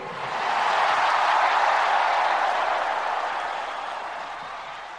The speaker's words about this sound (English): This is the loudest crowd so far here.